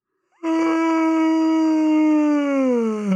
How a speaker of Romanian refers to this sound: Asta a fost căscatul lung. Căscatul lung. De fapt, este căscatul lung și căscatul exagerat de lung. Ia să auzim căscatul.